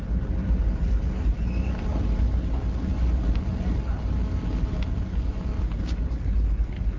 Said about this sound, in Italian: In questo momento il traghetto è partito, stiamo sentendo dei rumori inquietanti. C'è un rombo pazzesco. Vi facciamo ascoltare le vibrazioni.